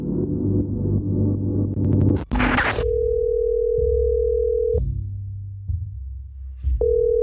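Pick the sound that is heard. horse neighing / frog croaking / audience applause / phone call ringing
phone call ringing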